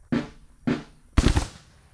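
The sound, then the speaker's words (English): Civil War reenactors portraying soldiers of the Battle of Wilson's Creek demonstrate their period firearms outdoors: two sharp reports about half a second apart, then a louder, rougher blast that rumbles briefly before fading. No one speaks. “They read letters and poetry from the era before they turn around and demonstrate what their arms are capable of.”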